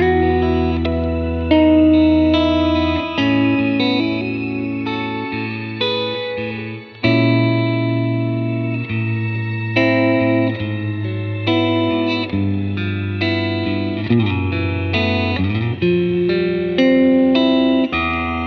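An electric guitar plays sustained chords drenched in a shimmering, octave-up reverb that blurs into a lush, synth-like wash, steady and loud throughout with no talking.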